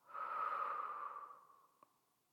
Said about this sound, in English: Right now, just focus on your breathing.